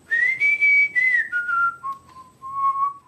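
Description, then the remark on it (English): A person in a cave whistles a clear, sustained tone to call owls out of their hiding places. The tone slides and steps down in pitch across a few held notes. It is fairly loud, with no other sounds around it. “When I come here, I always whistle, and then the owls come out from their hiding places.”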